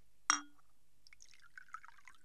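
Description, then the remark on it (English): A single bright glass clink, then after a short pause rum trickles and gurgles into a glass in a light, uneven stream, fairly quiet, with no voices. “Jim, lad, bring me a glass of rum.”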